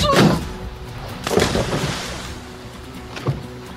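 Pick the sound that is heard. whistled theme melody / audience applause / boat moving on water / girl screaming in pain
boat moving on water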